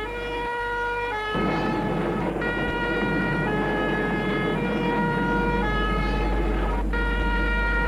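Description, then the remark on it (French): A fire engine's two-tone siren wails loudly as firefighters arrive at a house, alternating between high and low notes every second or so over a heavy engine rumble, growing slightly stronger as it approaches. No one speaks. “Les pompiers arrivent, mais trop tard.”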